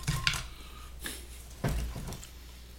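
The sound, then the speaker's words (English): Dishes and cutlery clatter in a few separate bursts as a hot plate is handed over, a plate set down with a clink and some scraping, against a low steady background hum. “Take this plate.”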